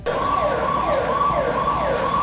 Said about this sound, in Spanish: La semana precedente presentamos a Skyfader, este personaje de internet, un vecino de San Isidro, que denuncia los ruidos molestos de alarmas de casas.